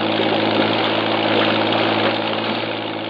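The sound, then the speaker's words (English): A patrol boat engine drones steadily as the boat shoves off from the waterfront, one of several patrol boats lined up for an operation. A loud, constant low rumble with a broad churning hiss over it holds even for the whole stretch, with no voices. “Jeffries, Morrows, and I race to the waterfront and pile aboard one of the several patrol boats lined up for the operation. We shove off.”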